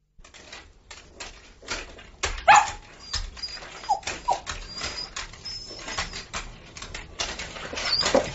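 A dog barks and whimpers in uneven bursts, sharp yelps mixed with higher whiny cries, alongside scuffling and shuffling noises, with no one speaking.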